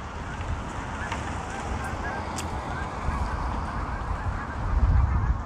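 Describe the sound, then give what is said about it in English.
A large gaggle of geese honks continuously, many overlapping calls over a steady rumble of wind or water noise. “Big gaggle of geese here.”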